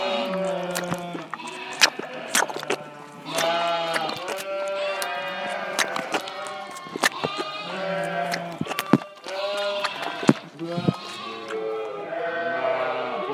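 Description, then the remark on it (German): Many lambs bleat over one another in a steady, overlapping chorus, high wavering cries rising and falling, with sharp clicks and knocks scattered throughout. “Manche von deinen Lämpchen, die müssen mit der Flasche großgezogen werden.”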